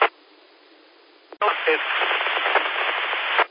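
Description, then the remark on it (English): Narrow-band radio hiss runs quietly, then a click opens a louder burst of static with a faint, garbled voice from a station trying to check in barely breaking through the noise until it cuts off. “You're way down in the noise.”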